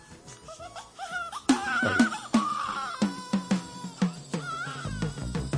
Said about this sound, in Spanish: empieza con el llanto que él mismo grabó en el parto de la niña